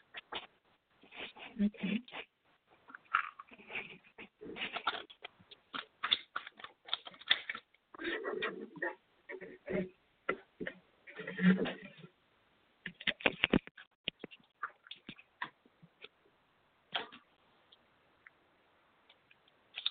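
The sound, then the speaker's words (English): A deck of tarot cards being shuffled for a reading, a busy run of soft riffling and tapping bursts that start and stop irregularly, with brief pauses and a quieter stretch near the end. “One second while I shuffle the cards.”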